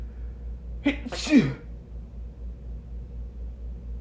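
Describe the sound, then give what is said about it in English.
A single sharp human sneeze with a quick breathy intake just before it, then quiet with a steady low rumble underneath. “And I'm going to sneeze in a second, so excuse me.”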